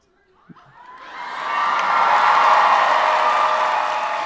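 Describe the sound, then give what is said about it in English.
A crowd erupts into cheering and yelling, building from quiet over the first second and a half into a loud, sustained roar of many voices that holds steady to the end. “Would you stop yelling at me?”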